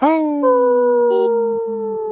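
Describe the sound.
People on the radio show Native Roots Radio Presents howl like wolves together, in a segment brought to you by Howling for Wolves: one long, steady, wavering wail that starts higher, slides down and holds, loud throughout, with no talking over it.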